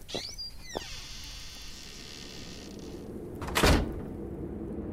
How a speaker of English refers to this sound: She opened and closed the wooden workshop door behind her, flicking the light switch as she did.